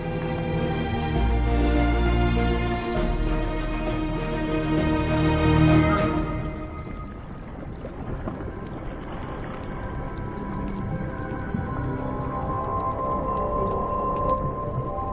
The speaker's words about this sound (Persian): زیر آب متوجه شدیم که تمام این صداها توسط ماهی‌ها تولید میشه. اونا از صدا واسه جذب جفت یا واسه ترسوندن شکارچی ها استفاده میکنن. مدام صدای تق تق و خرخر و قلقل و چیزای دیگه میاد. زیر آب یه زبون کاملاً متفاوت وجود داره که ما تازه داریم اونو کشف میکنیم.